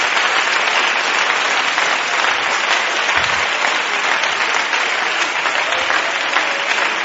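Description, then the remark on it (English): An audience claps hands to the Lord in sustained, dense applause, many hands blending into a steady roar that holds at an even, loud level for the whole stretch without a break. “Clap your hands to the Lord one more time, please.”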